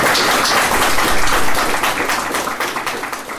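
An audience breaks into sustained applause, a dense crackle of many hands clapping that stays loud throughout and tapers only slightly toward the end, with no voices heard over it.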